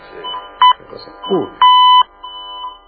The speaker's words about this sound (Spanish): ¿Vio la máquina esta cuando hace titi? Es que ya está limpio.